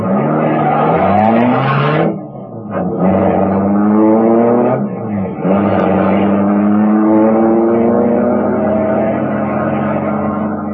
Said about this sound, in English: The motor turned over, and I got out of there as fast as the car could make it.